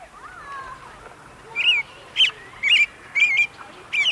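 american robin singing

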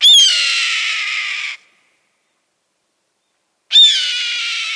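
red-tailed hawk call

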